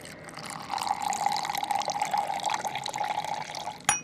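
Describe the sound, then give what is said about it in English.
Concentrated coffee and then warm milk pour steadily into a cup for a few seconds at Café Tacuba in Mexico City, a continuous trickling stream with a rising fill tone, ending with a short clink. “So they pour this really concentrated mix of coffee and then really warm milk.”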